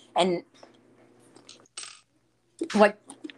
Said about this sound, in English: I was drinking some water.